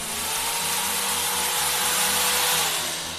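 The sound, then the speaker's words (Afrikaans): A power drill whirs steadily for a few seconds, a loud, continuous motor whine with a slight rise and fall in pitch. No voices are heard. “Dan boor ek jou verstandtanne uit. Met hierdie boor.”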